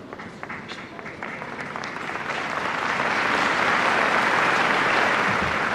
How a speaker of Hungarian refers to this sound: Hirtelen azt hittük, hogy ma elmarad a tapsvihar, amivel megszokták köszönni Ferenc pápa tanítását, áldását, de nem maradt el azért teljesen.